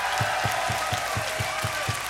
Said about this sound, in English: Can we have one great big last round of applause?